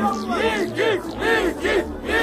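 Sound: crowd cheering and shouting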